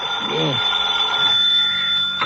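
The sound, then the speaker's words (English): A telephone in an apartment rings in the morning, waking the sleeper, with a steady, continuous electronic trill, fairly loud, while a brief voice sound rises and falls near the start. “Next morning, the phone awakens you.”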